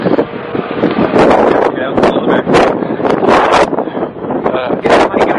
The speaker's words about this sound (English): Fucking windy as hell out here. Harsh wastelands of Canada here.